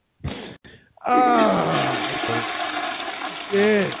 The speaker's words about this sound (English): You flushed the toilet.